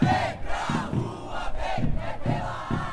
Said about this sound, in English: led a chant at a protest in downtown Sao Paulo last month.